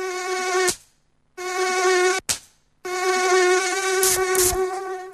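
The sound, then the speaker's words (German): A high-pitched mosquito whine drones in steady bursts, cutting out briefly twice before resuming, with a couple of sharp clicks near the end; no one speaks. “Antibrum, der wirksame Schutz gegen Mücken und Zecken.”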